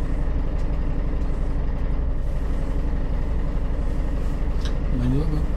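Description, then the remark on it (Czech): A bus drivetrain rumbles with a worn clutch bearing, a steady, loud low grinding drone that runs unbroken throughout, with a brief rising whine near the end. “Rachot, ale tam si něco šmelcuje.”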